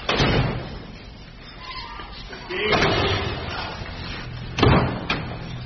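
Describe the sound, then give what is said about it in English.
Several doors bang shut one after another during a room search, sharp, loud thuds at irregular intervals, with a busy background of movement and muffled voices between the slams. “Open your door.”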